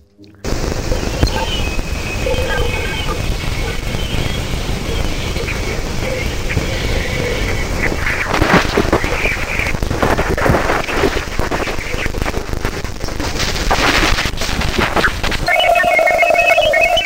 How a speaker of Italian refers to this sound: Professoressa, una sorta di fruscio, e questo è la voce delle aurore di Ganimede, il più grande dei satelliti del pianeta Giove. Un commento a caldo di questo suono appena ascoltato?